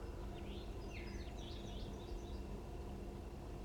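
wild birds calling

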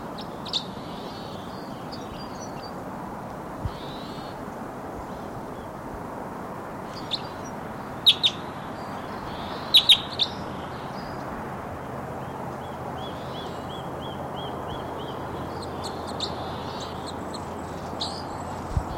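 crossbill song

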